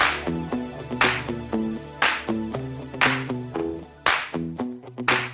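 A lone person slowly claps in a bedroom, five sharp, evenly spaced claps about a second apart, over a steady bed of plucky, tuneful music with no talking.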